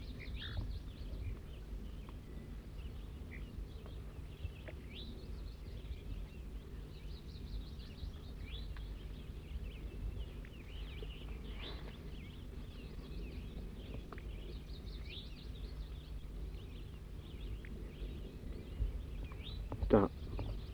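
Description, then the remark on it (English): A wild bird gives a series of short, buzzy high-pitched 'zezer' notes, repeated irregularly and fairly faint, over a steady low rumble of wind noise. “Wild bird's now giving zezer notes.”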